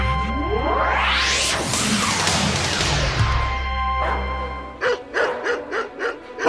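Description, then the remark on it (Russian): Several vicious dogs straining at their leashes bark aggressively and growl in a loud, dense clamor over a low rumbling background in Nazi-occupied Warsaw, Poland, followed by a run of sharp, rhythmic barks near the end. “Ой, какие злющие собаки! Скалятся, рычат, с поводков рвутся.”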